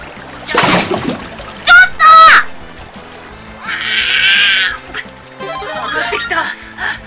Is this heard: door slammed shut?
no